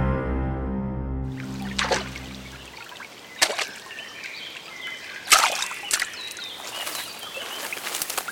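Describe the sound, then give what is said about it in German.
River water trickles steadily at a low level, broken by occasional brief splashes and clicks. A deep droning hum plays for the first few seconds before cutting out. “Ist echt schön hier. So, am Fluss.”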